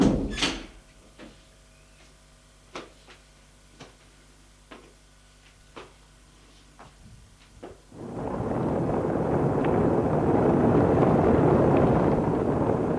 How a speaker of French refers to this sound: Entrez. Il ouvre la porte.